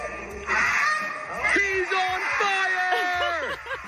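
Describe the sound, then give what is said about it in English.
A man imitates a Canada goose for a crowd, letting out a rapid series of loud, nasal honks with rising and falling pitch, almost continuous for a few seconds. “Next up, the Canadian goose.”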